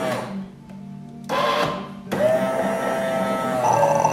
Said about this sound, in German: Ich meine das Geräusch, wenn die Kaffeemaschine durchspült und sich so richtig parat macht, für einen frischen Kaffee zu machen.